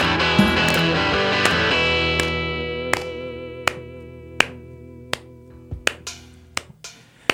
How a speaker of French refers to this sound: Et oui, et j'applaudis.